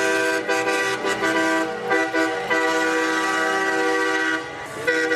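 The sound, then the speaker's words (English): Loud truck air horns of the People's Convoy of trucks protesting COVID-19 mandates in the Washington, D.C. area blare almost continuously for several seconds, several overlapping tones sounding together with only brief dips, like a convoy honking in unison. No voices are heard. “The people's convoy of trucks, vehicles, and protesters opposing COVID-19 mandates are in Washington, D.C. area today.”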